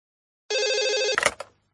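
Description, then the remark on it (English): A telephone rings once in a short, bright electronic trill, then cuts off with a couple of sharp clicks and clunks. It is clear and fairly loud, with no one talking: a customer's call to the house agent Dubai Palm Apartments. “I'm ringing to inquire about a holiday apartment for the month after next.”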